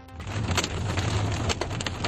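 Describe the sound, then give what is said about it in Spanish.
Golf-ball-sized hail pounds cars parked on a street in the Sierra de Albarracín, Teruel province, during a Sunday rainstorm, in a dense, steady roar, with sharp individual impacts cracking through every moment or so and a low rumble underneath. No one speaks. “Una pedregada del tamaño de pelotas de golf que comenzó a pegar con fuerza, como escuchas, en los coches que estaban aparcados en la calle, rompiendo lunas y vehículos que acabaron totalmente abollados.”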